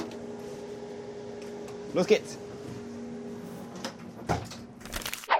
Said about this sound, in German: Alle einsteigen bitte, die Türen schließen.